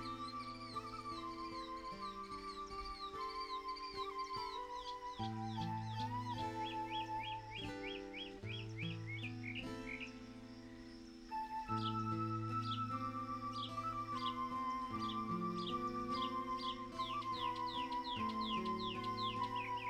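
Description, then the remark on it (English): Bright, repeated bird chirps and trilling songs of a forest awakening in the early morning run throughout, layered over a steady, soft musical drone. No voices are present. “As you walk the path, you hear the birds and subtle sounds of the forest awakening.”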